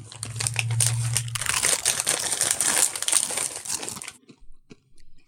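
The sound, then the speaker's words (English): Loud crunching of Indian curry flavored Doritos tortilla chips during a tasting, a dense run of crackly bites for about four seconds that then tapers off into a few faint clicks, with no talking. “You guys ready for the crunch off? Yeah. Crunch it off.”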